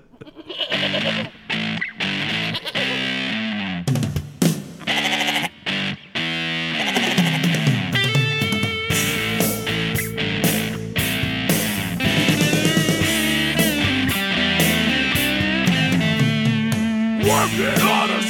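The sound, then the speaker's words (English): A loud rock song cover played by two musicians, with heavily distorted guitar and rough, bleating vocals. It opens with choppy stop-start stabs, then settles into a dense, continuous groove. “do a … song just for the Stinky Pig Farmer”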